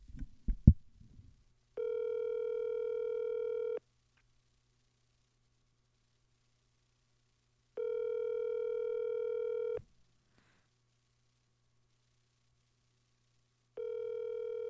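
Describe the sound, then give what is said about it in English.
An outgoing phone call rings on the line: steady two-second ringback tones repeating about every six seconds, heard alone after a brief click or fumble at the start, with a faint background hum. “I don't know if he can take a call right now.”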